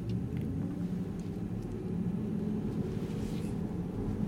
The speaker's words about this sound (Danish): Det er ikke mange lyde udefra, der kommer ind i bilen. Det, man hører i øjeblikket, det er faktisk lyden fra hjulene.